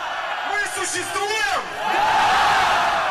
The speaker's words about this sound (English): We exist, the crowd shouted back. Alexei Navalny told them they mattered.